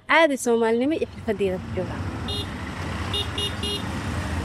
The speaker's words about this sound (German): Mogadischu ist eine Stadt der krassen Gegensätze. Hier am K4, dem wichtigsten Verkehrsknotenpunkt, schieben sich motorisierte Dreiräder, LKWs und Autos Tag und Nacht durch den Verkehr.